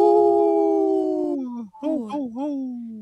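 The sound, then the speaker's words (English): A wolf howls loudly: one long, steady note that slowly sinks in pitch, breaks off briefly, then returns as a wavering cry that dips and rises again before holding. “Howl!”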